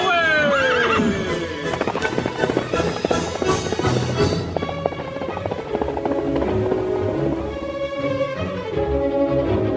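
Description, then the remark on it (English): The great horse Silver of The Lone Ranger lets out a loud, shrill whinny, followed by the steady, rapid pounding of galloping hooves, loud and continuing to the end. “From out of the past come the thundering hoofbeats and the great horse Silver.”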